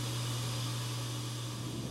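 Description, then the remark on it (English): A dishwasher runs with a steady, unchanging drone: a low mechanical hum beneath a broad hiss of water and motor noise, constant throughout, with no voices. “The dishwasher.”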